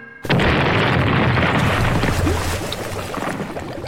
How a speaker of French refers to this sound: Et lorsque le scénario l'exige, elle n'hésite pas à faire exploser de vrais bateaux.